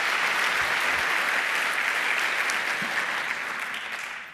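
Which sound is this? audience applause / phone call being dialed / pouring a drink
audience applause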